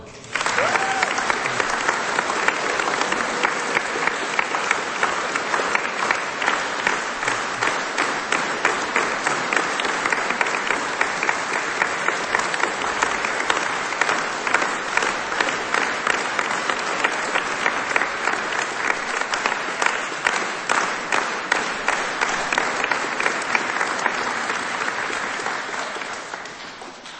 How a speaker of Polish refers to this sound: Myślę, że księdzu arcybiskupowi także wyślemy z tego pięknego miejsca gorącą rzekę naszych pozdrowień w postaci oklasków. Niech popłyną.